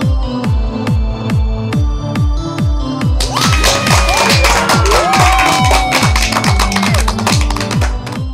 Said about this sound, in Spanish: Con esa energía positiva y esos aplausos damos inicio a este episodio número 94 del programa Te Invito a un Café.